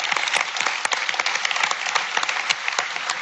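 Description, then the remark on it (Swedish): A steady burst of audience applause for two young women who recently graduated from Chalmers: many hands clapping together in a dense, continuous patter that holds at an even level for a few seconds, with no voices over it. “En applåd”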